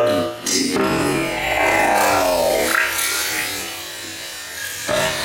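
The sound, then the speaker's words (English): Potato water pours and sloshes steadily from a heavy pan into a bowl, a continuous broad splashing rush with shifting gurgles that fades slightly before a final surge. “That's the sound of it sloshing in the bowl there.”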